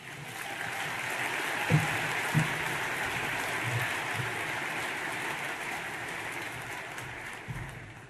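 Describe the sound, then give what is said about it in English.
A crowd at the Anchorage Economic Development Corporation's one-year economic forecast for Anchorage applauds Mayor Ethan Berkowitz steadily. It is a dense wash of many hands clapping at once that holds at an even level from start to finish, with a few louder claps or thumps standing out now and then. “Let's give another round of applause to our mayor, Ethan Berkowitz.”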